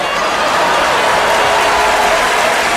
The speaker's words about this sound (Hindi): तो इनका खातिर जोरदार ताली हो जा हो भैया।